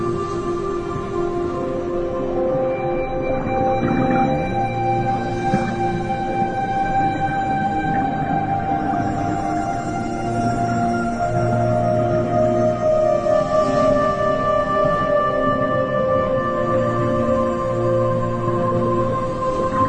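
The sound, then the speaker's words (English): Long, drawn-out tonal calls glide slowly up and down, overlapping in a continuous, eerie underwater chorus that sounds like humpback whale song, steady and fairly loud with no voices. “Musical sounds announce the arrival of even bigger whales. Humpbacks.”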